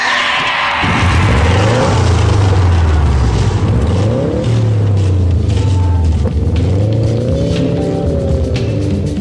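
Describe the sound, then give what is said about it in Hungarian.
A car engine turns over and catches, then revs loudly several times, its pitch climbing and falling in repeated surges. It fills the whole clip, with no voices. “Start your engine!”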